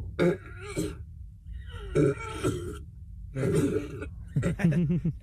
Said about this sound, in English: I should be a human guitar. Burp guitar. Yeah, I know. Yeah, I burp.